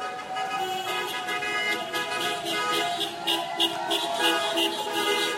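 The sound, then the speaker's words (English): Several car horns from passing cars honk in long, overlapping blasts over steady traffic noise as a person walks by, sounding fairly loud throughout without a break. “And now, as I walk by, some of the cars are honking their horns.”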